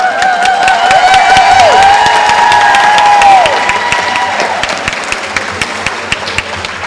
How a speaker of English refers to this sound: One ear means you cheer. This ear means you clap. And this means you cheer and clap, okay?